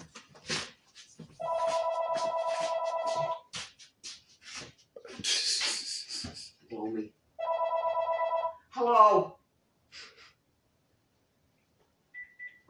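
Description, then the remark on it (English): A telephone rings in two long, steady electronic buzzing bursts separated by a pause, loud and evenly pitched, with scattered voices and clatter in between. “Run to the phone for a fucking fuck you.”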